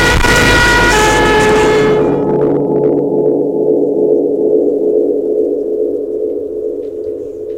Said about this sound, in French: Voiture qui roule.